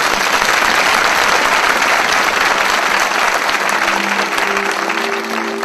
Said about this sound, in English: Let me tell you, let us clap to the Lord.